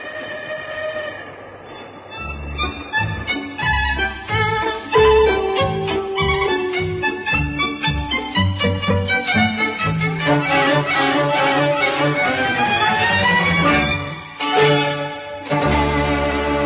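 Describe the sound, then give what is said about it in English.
A train rolls along the rails with a loud, continuous rumble and rhythmic low thumping, overlaid by shifting tonal whines and horn-like pitches. No voices are heard. “Oh, isn't this exciting? Eating dinner on a train?”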